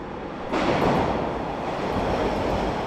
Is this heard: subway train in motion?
yes